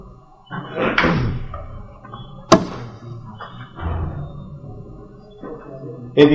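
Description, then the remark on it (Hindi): A chair is carried in and set down for a visitor, with scraping and shuffling, a sharp wooden knock partway through, and another thump at the end. “एक कुर्सी ला रहे हैं आपके लिए।”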